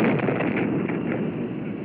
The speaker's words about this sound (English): That was the shock wave.